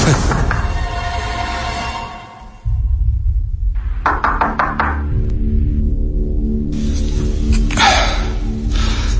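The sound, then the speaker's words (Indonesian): A quick run of sharp knocks on the closed door of a room off a third-floor corridor, five or six raps close together, then a few more scattered thuds, all over a steady low rumbling drone. “aku mendengar ada suara ketukan dari arah pintu itu.”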